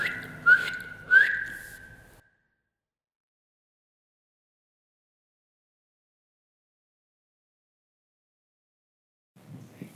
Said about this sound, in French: aime siffler.